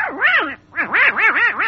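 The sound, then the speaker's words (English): A duck quacks alone: one drawn-out nasal call, a short pause, then a quick run of four loud, bright quacks rising and falling in pitch. “Oh, it's my darling little ducky.”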